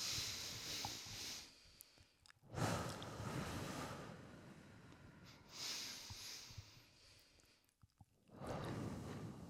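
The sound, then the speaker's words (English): Slow, deep breaths drawn in and pushed out, several long airy inhales and exhales in a steady rhythm with brief quiet pauses between them, no talking; a group breathing exercise. “We are going Open to breathe. Those clammy hands. Let's do three in.”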